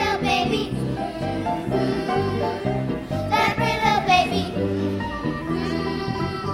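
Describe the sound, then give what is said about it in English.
A group of children sings a Christmas spiritual together, voices blended in sustained, steady phrases that fill the whole stretch at a full volume. “the spirituals My Way is Cloudy and Mary, What You're Gonna Name That Baby, which is what we're hearing now”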